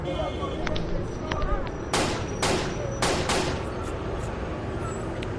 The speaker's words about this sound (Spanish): Justo en la puerta, un hombre que llevaba esperándole en ese lugar cerca de 5 minutos le dispara varios tiros por la espalda y en una pierna.